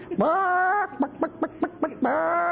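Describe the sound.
Chicken clucking, fairly loud: a drawn-out squawk, then a quick run of five short, evenly spaced clucks, ending in another long squawk. No talking.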